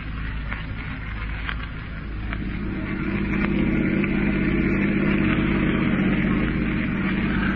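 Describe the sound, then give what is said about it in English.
Miss Miller's car engine idles with a steady, low rumbling drone and a faint rattle, swelling slightly louder partway through and then holding even. No one speaks. “Miss Miller's car, Chief.”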